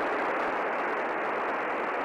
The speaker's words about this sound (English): Just static.